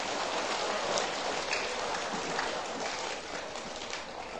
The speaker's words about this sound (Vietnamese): Nếu giải tỏa các xung đột và mâu thuẫn là một đức tính tốt mà mỗi người đều có thể làm được, các cháu hãy dành một tràng vỗ tay thật lớn để cam kết.